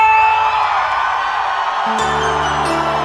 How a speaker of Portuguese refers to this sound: Cadê o grito da galera?